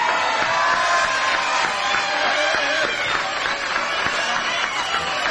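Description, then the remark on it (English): A large audience claps and cheers steadily for a quintet, a dense, continuous wash of applause with scattered whoops rising out of the crowd noise at a constant, fairly loud level. “How about a round of applause”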